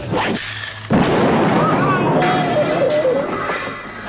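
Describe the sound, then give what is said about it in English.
A sudden, loud explosion of a tank of nitroglycerin, set off by a match struck near a leaking gas lighter in the Muppet Show's Pigs in Space sketch, bursts in after a brief quieter moment, then a sustained roaring, crackling rumble carries on for several seconds, with faint voices mixed into the noise. “Oh, it dropped over here by the tank of nitroglycerin.”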